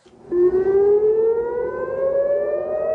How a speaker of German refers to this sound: Mit Sirenengeheul wachen die Menschen in Israel um kurz vor 3 Uhr morgens auf.